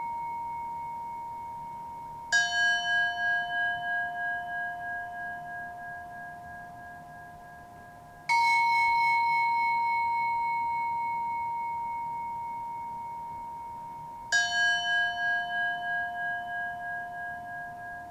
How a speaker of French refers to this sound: Cherchez progressivement à vous coordonner avec le rythme du gong.